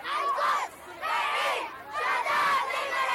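A crowd of protesters in Beirut, supporting Gaza and denouncing the massacres in Palestine and Lebanon, shouts in loud, rhythmic bursts, massed voices rising and falling in repeated chant-like waves with brief dips between them.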